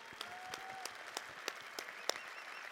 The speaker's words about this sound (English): Let's clap it up for these creative individuals.